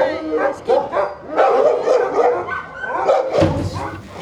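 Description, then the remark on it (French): A dog barks in short, repeated bursts, mixed with some yipping, while people talk over it in a lively setting. “Alors si t'as peur d'un chien, tu te décales.”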